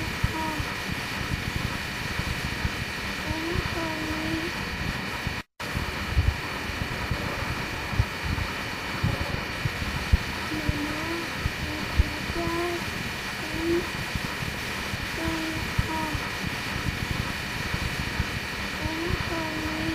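A steady engine drone hums in the background throughout, a constant low rumble with a whining tone layered on top, while short cooing bird calls rise and fall over it.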